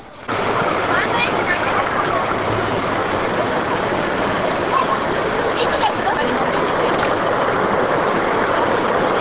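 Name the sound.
mountain river stream flowing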